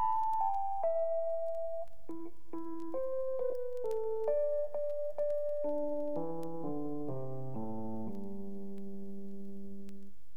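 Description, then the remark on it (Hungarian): A Fender electric piano plays a slow melody of single bell-like notes, moves into layered chords, and ends on a long ringing chord that fades out. No voices or other instruments. “A Fender zongora hangjai.”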